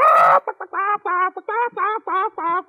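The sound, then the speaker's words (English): A person imitates a hen, opening with a loud, harsh squawk and then a quick run of about seven rhythmic, nasal clucks, clear with no other sounds. “Let's see if we can imitate a hen.”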